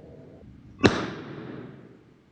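A single sharp, loud pop of a balloon, burst by orange peel juice dissolving a small patch of its rubber surface, breaks a low hum, leaving a brief ringing tail that fades over about a second. No one speaks.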